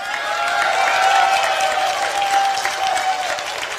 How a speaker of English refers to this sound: And yet, those people cheering, they got provoked.